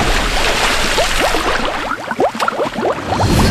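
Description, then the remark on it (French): Water rushes and gurgles loudly and steadily into a leaking boat, a dense churning flow with constant bubbling bursts, with no voices. “Il y a une fuite, nous devons quitter le bateau! L'eau rentre, l'eau rentre!”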